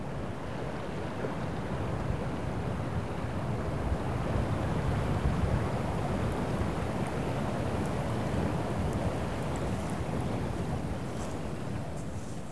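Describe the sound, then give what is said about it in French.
Steady wind roars and buffets the microphone while the risen sea swell rumbles and surges continuously on a beach at low tide in Brittany, France, in changeable weather, a dense low-heavy wash with no voices. “Un bruit de fond, le vent, la houle qui s'est levée.”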